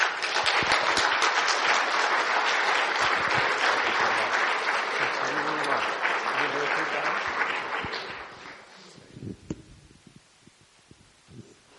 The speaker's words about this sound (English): So please, a big round of applause for the Reverend Jim Groom.